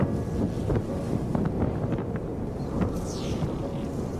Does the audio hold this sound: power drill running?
no